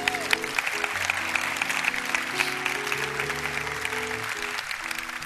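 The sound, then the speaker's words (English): An audience at Rhema Bible Church applauds its first-time guests, many hands clapping in a dense, continuous patter while sustained organ or keyboard chords play underneath at a moderate volume throughout. “Let's give a hand clap to our first time guests as they go.”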